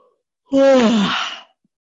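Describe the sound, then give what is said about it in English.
A single loud yawn: a voiced tone slides downward, then trails into a breathy exhale lasting about a second, with silence before and after. “Just like yawning.”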